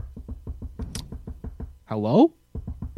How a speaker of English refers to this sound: Knock, knock.